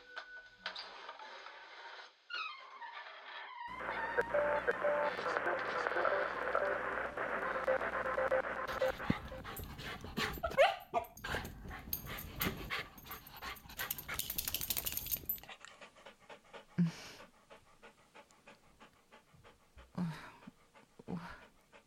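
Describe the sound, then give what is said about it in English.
A dog belonging to a man in a flat cap pants and whimpers, its breathy huffs and thin whines mixed with scuffling and mechanical clatter, with no voices heard. “You're the man in the flat caps dog, aren't you?”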